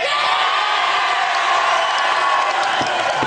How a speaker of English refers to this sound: The crowd erupted as Rory eventually took the 18th hole. His win was a very special moment for supporters of the club.